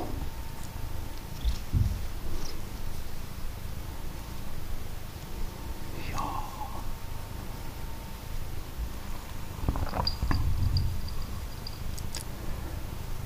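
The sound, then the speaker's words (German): A cat purrs steadily, a continuous low rumbling hum that persists throughout, with a few faint clicks and rustles on top and no voices. “Ja, jetzt schnurste.”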